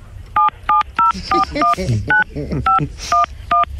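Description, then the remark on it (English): Phone keypad tones as an ID number is punched in during a phone call: about ten short, loud dual-tone beeps in a quick, fairly steady sequence, with a voice talking underneath the middle stretch. “Please don't punch it in on the phone.”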